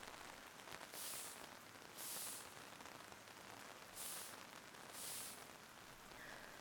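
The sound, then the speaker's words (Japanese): Soft, steady rain falls with a continuous fine hiss, swelling briefly brighter four times at roughly even intervals. It stays quiet throughout, with no voices. “さあ、雨粒を払うてやろうな。”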